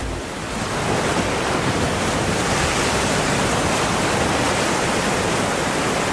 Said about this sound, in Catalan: El mar. L'immensitat del mar.